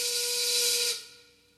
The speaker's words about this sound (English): It's one of those songs that you can recognize right away. It starts with a steam whistle.